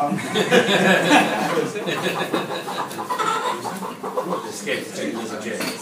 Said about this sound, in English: I have here a chicken, which I can't get to see if I really don't know.